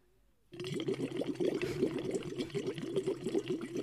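Steady bubbling gurgle of air blown through a silicone tube, about 30 cm long with 2 mm walls, into a half-filled water bottle; a rapid burbling rhythm that starts abruptly and continues loud, with no talking.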